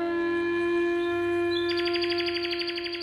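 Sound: nightingale singing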